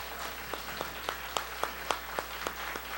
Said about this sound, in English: If you're not from Iqaluit, you should not be clapping. I was saying, we from Iqaluit have been, we've got visitors once again, and we were saying, we should clap our hands from people from Iqaluit to welcome those that have come from outside.